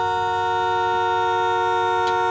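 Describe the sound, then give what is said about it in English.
A single car horn honk, held as one steady, loud blast that continues unbroken for the whole moment, with no voices. “I see. The one honk.”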